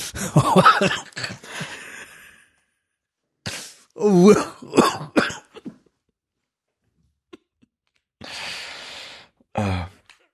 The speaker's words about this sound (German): Ja, man hört dich von weit weg husten.